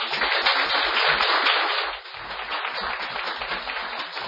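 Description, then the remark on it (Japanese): An audience applauds steadily to welcome a missionary, a dense wash of many hands clapping at once, loud and continuous, easing slightly in the second half but never stopping. “拍手を持って歓迎しましょう。”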